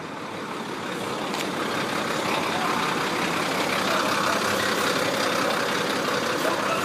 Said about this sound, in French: C'est l'heure de pointe aux douanes de Dandong. Des dizaines de camions attendent leur tour au bord de l'artère qui mène tout droit vers le pont de l'amitié, cet axe vital entre la Chine et la Corée du Nord.